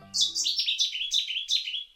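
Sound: bird song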